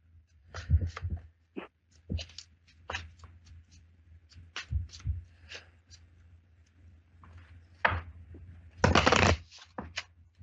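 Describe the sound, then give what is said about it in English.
Lenormand cards being shuffled, with quick crisp riffles and taps in uneven bursts and a louder, longer flurry of shuffling near the end, over a low steady hum. “Let me do the Lenormand on this real quick, because they shuffle a little faster and they read like kind of really quick and easy on this.”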